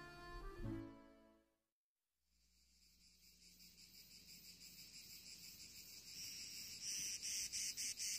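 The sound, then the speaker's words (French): Cicadas drone in a dense, shrill chorus on a fine summer day in the south, swelling steadily louder and turning into a rapid pulsing buzz near the end, heard alone after a brief tonal sound and a moment of silence. “C'est une belle journée dans le sud de l'été, les cigales, les cyprès, les citronniers.”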